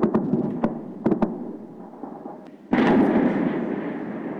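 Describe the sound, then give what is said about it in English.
Air defense fire in Kyiv, Ukraine, shooting down Iranian Shahed drones during a large Russian drone attack, recorded by phone out of a window: a few sharp, booming cracks in quick succession, then a sudden loud, sustained rumbling roar of continuous firing that carries on to the end. No one speaks. “You know, that's the air defenses shooting down the Iranian Shahed drones.”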